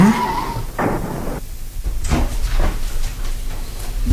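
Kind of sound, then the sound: vehicle, car approaching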